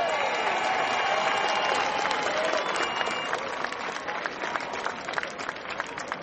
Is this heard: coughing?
no